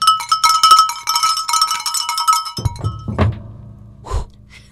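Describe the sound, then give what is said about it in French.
A bell is struck repeatedly in quick succession, giving loud, bright metallic clangs with ringing overtones, then stops. A few dull, low thumps follow, with no voices. “Vous voulez un coup de cloche? Ouais, bon, bah, un coup de cloche. Ça sonne fort, ça.”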